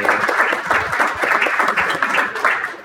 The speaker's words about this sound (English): Give them both a round of applause, okay?